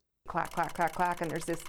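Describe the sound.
A voice imitates the clatter of a teletype machine printing out paper tape, with a quick, even run of about eight sharp syllables, fairly loud, with nothing else in the background.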